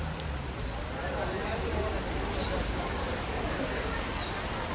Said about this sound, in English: Standing here, with the rain pouring down, it's hard to believe that this city, in the world's most water-rich country, is threatened by drought.